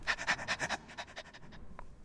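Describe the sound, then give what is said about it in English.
A person imitates a dog's panting with a quick, steady run of breathy huffs, loud at first, then trailing off into softer, fainter pants. “Yeah, that always sounds a bit gross, I mean, because it leads into the actual dog doing it, which isn't, by the way, a dog.”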